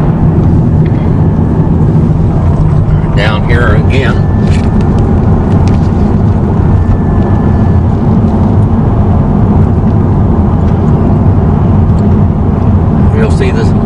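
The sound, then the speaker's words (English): Steady, loud roadway rumble of cars passing continuously on busy Highway 264 in the 5 o'clock traffic, filling the whole recording with a dense low-frequency wash, with a man speaking briefly over the traffic noise. “Now cars coming down the road here on this very busy road at the 5 o'clock traffic.”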